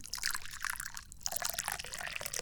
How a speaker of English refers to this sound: I like to drink tea. So let's pour some right now.